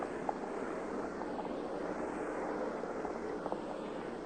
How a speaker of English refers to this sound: While the helicopters approach